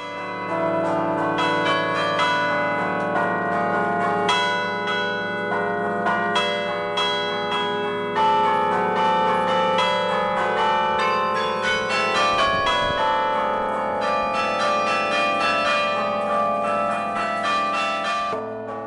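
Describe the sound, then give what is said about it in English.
The bells of a Dutch carillon in a tower chimed in a steady, even sequence, each strike sounding the same with no swinging swell, ringing out loudly with long overlapping resonance and no voices present. “Much the same weight of bells in the tower, but you'll hear that the bells are all sounding the same each time they're struck, rather than that full swinging sound.”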